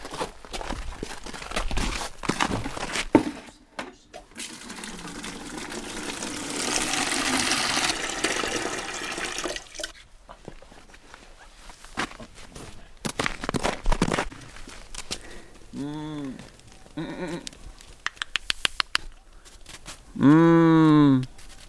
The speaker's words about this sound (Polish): No one się ustawią teraz, bo też ważna jest kolejność. Ja często donoszę 2 razy wiadro z wodą dla kóz, ponieważ one mają swoje zasady, która pierwsza pije.